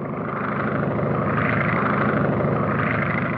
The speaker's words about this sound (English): Here's what it sounded like back then. Universal Pictures had an airplane circling the globe. You heard the sound effects of the engine.